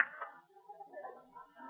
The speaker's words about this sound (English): And I'll open this door and see for myself.